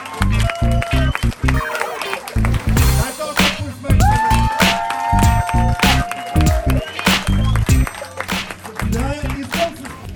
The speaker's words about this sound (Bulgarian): така че дайте аплодисменти на него.